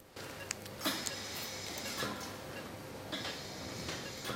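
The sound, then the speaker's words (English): Scissors make a few small, crisp metallic snips at uneven intervals as a surgical suture is cut, over a steady low hum, with no one speaking. “Michael snips a suture.”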